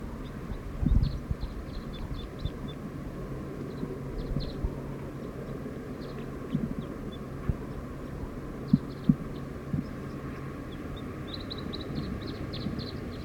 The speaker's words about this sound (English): Song of a wild bird. Very soft.